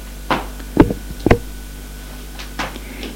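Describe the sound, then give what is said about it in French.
A red padded door to a judge's office opens with a few sharp clicks and knocks of the latch and handle, followed by a softer rattle a moment later, with no talking. “Dans d'attente, la porte s'ouvre.”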